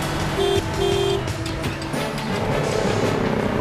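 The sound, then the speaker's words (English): A car engine roars steadily under dense traffic noise as the car pulls into the center lane and accelerates hard to try to get in front of a bus, with two short honks of a horn early on, then the engine keeps pushing without a break. “Ryan pulls into the center lane and accelerates hard to try to get in front of the bus before he's cut off by a traffic island.”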